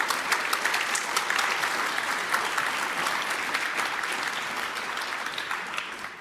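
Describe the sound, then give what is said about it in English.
A crowd applauds steadily for a talk on net neutrality presented by Epicenter Works and Gesellschaft für Freiheitsrechte, dense clapping holding at a fairly loud, even level for several seconds before easing off slightly toward the end, with no talking over it. “Please give a warm round of applause for them for the talk.”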